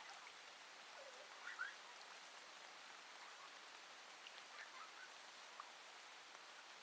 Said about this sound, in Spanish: Dan vueltas sobre sí mismos y se divierten bajo aquella lluvia repentina.